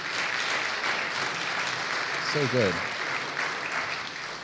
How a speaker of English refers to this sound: Can we give our worship team a round of applause?